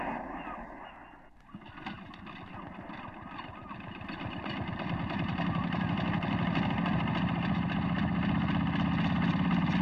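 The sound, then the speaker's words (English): A motorboat engine starts up and runs with a steady, throbbing drone that grows louder and fuller over several seconds, without any speech. “Get this boat running.”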